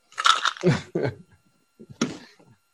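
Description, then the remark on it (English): Crisp crunching and chewing on Rasa Velasini snacks: a cluster of crackly bites, a short pause, then another crunchy burst fading into softer chewing. No one talks. “We'll have some of these Rasa Velasini.”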